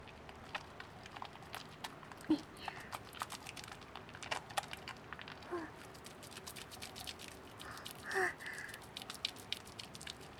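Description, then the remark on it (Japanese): Shampoo being carefully worked into foam on a head, a steady stream of soft crackling, squishing pops and bubbly clicks that carries on throughout, with a few louder wet squelches. “これも丁寧に泡立てて、”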